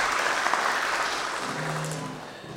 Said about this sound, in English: All right, clap your hands.